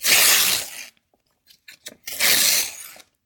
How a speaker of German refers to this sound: Und dann ist es, wenn sie ein bisschen feucht ist, gar nicht so schlecht. Dann kann man nämlich die erste Schicht, da wo so draufsteht, Milch von der glücklichen Kuh, die kann man da so abreißen.